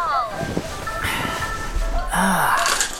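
A tinkly ice cream truck jingle plays early on a Saturday morning in short bright tones, moderately loud, then gives way to a gasp-like vocal sound and a falling whistly swoop near the end.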